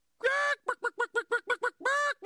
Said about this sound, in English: Chicken!